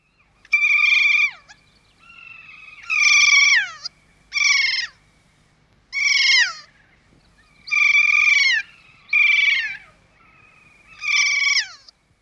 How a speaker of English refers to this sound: Kea are parrots. They live in the mountains and play in the snow.